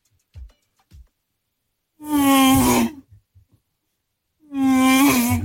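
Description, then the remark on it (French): A voice imitates a Formula 1 racing car for a sound-guessing game played in a car, with two loud, buzzy, droning bursts, each held about a second with a slightly falling pitch, separated by a short pause and a few faint clicks. “C'est quoi ? Bah, la Formule 1.”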